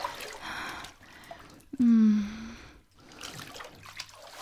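Water trickles and splashes softly at close range, broken midway by a brief, loud, low vocal tone from a person before the gentle flowing resumes.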